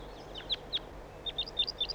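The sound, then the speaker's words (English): Wild bird flight calls recorded in the field during bird observation: a series of short, high, thin chirps, a couple early then a quicker run of about seven near the end, clear above a low background hiss. “Start recording flight calls of the birds.”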